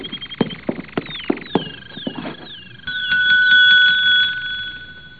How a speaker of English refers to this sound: There's a bell over in the desk. It might be a help.